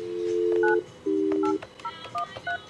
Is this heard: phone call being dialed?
yes